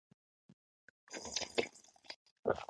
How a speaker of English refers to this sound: Let's take another sip of tea or water together.